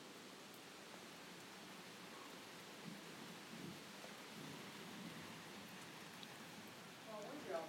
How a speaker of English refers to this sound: It's windy and it's not raining. It's rained really hard. It rained really hard and it's just coming off the trees now.